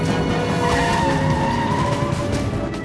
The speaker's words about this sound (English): swerves into a multi-story car park and flies up the spiral alleys, skidding into the wall from time to time. He puts his foot to the floor and the truck accelerates to the maximum of its capacity, the engine screaming in complaint,